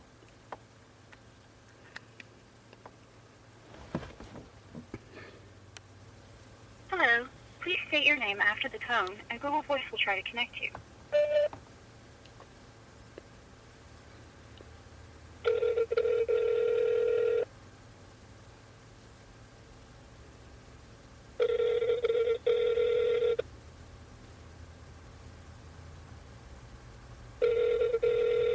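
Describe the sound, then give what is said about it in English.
A quick flurry of telephone dialing tones as someone calls back a caller, followed by three evenly spaced ringing tones, each about two seconds long, heard clearly over a faint background hum. “I'm going to call them back.”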